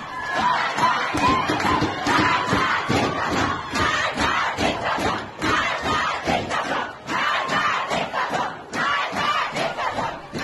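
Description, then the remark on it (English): A large protest crowd, including men, at protests led by women in solidarity with Amini, chants "Death to the dictator" in unison, loud rhythmic bursts of many voices repeating in a steady pulse, with brief pauses between phrases and a dense roar throughout. “The crowds, which include men, have been heard chanting, "Death to the dictator."”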